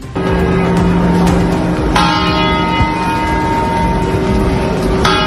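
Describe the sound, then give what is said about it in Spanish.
Deep chimes from the Puerta del Sol clock bell during its yearly test the day before New Year's Eve ring out, with a strong strike near the start and fresh strikes around two and five seconds, each leaving a long, humming resonance over steady background rumble. “El reloj de la Puerta del Sol ha hecho su prueba de cada año del día de antes.”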